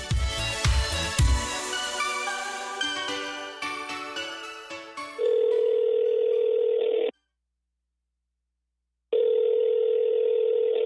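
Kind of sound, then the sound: signal or alarm, telephone dial tone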